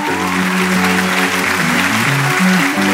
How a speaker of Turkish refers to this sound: Alkışlayalım.